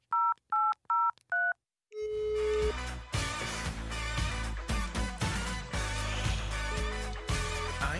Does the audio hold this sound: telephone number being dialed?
yes